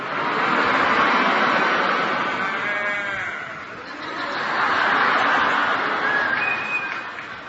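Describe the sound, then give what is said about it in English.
An audience imitates mother cows calling for their calves, a dense overlapping chorus of drawn-out, bleating moos that swells loudly, dips briefly, then rises again before tapering off. “You sound like a bull.”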